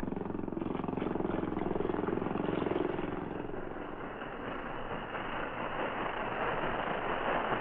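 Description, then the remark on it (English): A motorboat carrying two Mounties drones steadily for several seconds, a continuous low, rumbling hum with a slight swell partway through, loud, with no voices. “Two Mounties in that motorboat out there.”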